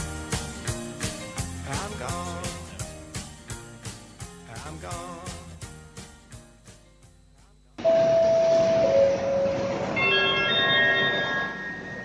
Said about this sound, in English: The train now approaching platform 4 is the service from Cork.